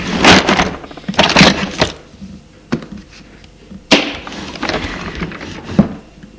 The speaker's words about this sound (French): Puis, prend un stylo à plume d'un autre tiroir.